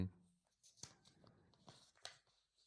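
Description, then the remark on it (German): Fairly quiet rustling and crinkling as a hand stirs through loose paper slips in a lottery drum, reaching down to the bottom, with a couple of sharper papery crackles standing out. “Kriege ich mal Props, dass ich hier die Lostrommel ein bisschen aufräume? So ein Quatsch. So, jetzt wieder ganz nach unten gegriffen.”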